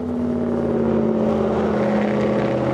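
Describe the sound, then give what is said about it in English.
A loud, steady roar of highway traffic on State Road 80 overhead, just north of the Everglades, a continuous droning rumble of engines with a low humming tone running through it, and no voices. “Traffic roars overhead as Ward climbs under State Road 80 just north of the Everglades.”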